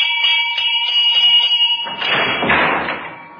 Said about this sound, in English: The bell rang again, more impatiently this time.